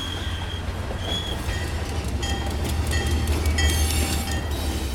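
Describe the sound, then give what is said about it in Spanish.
A train rumbles steadily along the rails of the isthmus railway in Mexico, with a heavy low roar and intermittent high metallic wheel squeals, loud throughout. “Esta vía de ferrocarril en el siglo pasado transportaba gentes, transportábamos nuestros productos, maíz, marranos, animales para los pueblos”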